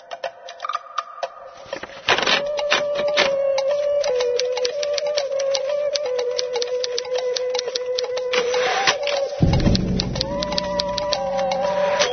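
A printing machine in a factory runs steadily, printing a written story, with a constant mechanical hum and a dense, rapid clatter of clicks. It grows louder after a soft start, and near the end the tone shifts lower and rougher.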